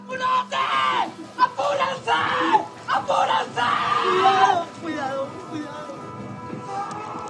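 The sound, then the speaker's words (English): Family members sob and scream together at the rubble of a collapsed building in Miami-Dade County, some screaming into the wind; loud anguished wails rise and break over one another for several seconds before fading into quieter crying and murmuring, with wind noise underneath. “Family members sobbed, some screamed into the wind.”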